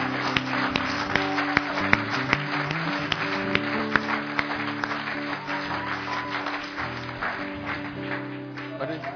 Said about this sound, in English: So let's give her the greatest round of applause that we can.